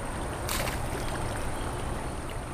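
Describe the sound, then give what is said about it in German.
Continuous swishing of water as someone wades knee-deep through the brown, churned-up water of the Ilz, with a brief louder splash early on and steady churning after, no voices. “Also ich merke jetzt, ich bin bis zu den Knien im Wasser.”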